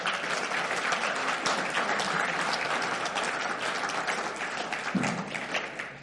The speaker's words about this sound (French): Et donc, pour ce beau témoignage, bien, toute gloire à Dieu. Est-ce qu'on peut l'applaudir ce matin?